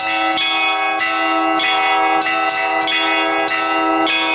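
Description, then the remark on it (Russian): Church bells ringing for Easter in a rapid, overlapping peal, loud, with bright strikes every half second or so and a sustained metallic hum between them; no voices. “Как дети становятся сразу, когда начинают звонить в колокола.”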